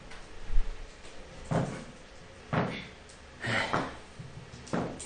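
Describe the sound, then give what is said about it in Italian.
Dice and game pieces clack against a board during a board game match, picked up by microphones placed by the playing field: a handful of sharp, hard knocks spaced a second or so apart, some doubled, over a quiet low background hum. “I rumori che state sentendo sono rumori dei dadi e delle pedine.”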